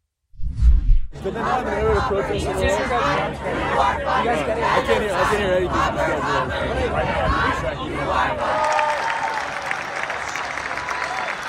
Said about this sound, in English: At University of Michigan, for example, they held a graduation over the weekend, and pro-Hamas protesters showed up to try and disrupt. And here was the crowd's response when those protesters were removed.